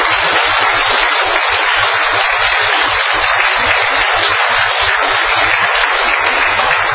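A group claps warmly and steadily for the full seven seconds, a dense, even wash of applause with a faint, regular low thumping beneath it and no voices.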